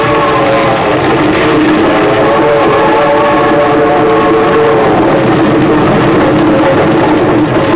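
A freight train rolls steadily along the rails, a loud, continuous rumble with a droning hum layered through it for the whole stretch, with no voices.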